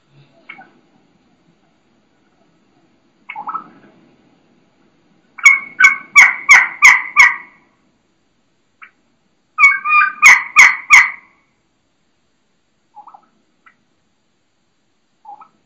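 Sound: wild turkey hen calling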